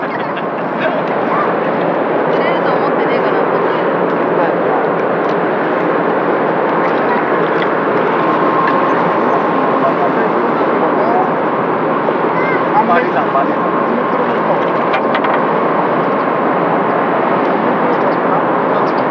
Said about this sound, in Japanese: 遠くで巨大なフェリーの轟音がする中、イワシ、アジ、シャコ、ハゼが釣れているようです。